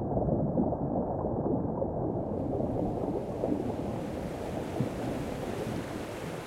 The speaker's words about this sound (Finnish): Jostakin kaukaa erotan virtaavan veden pauhun. Ehkä sieltä, missä koski laskee suvantoon, missä taimen uhmaa vastavirtaa.